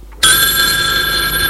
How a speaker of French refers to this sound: Il est 21h30. Le téléphone sonne.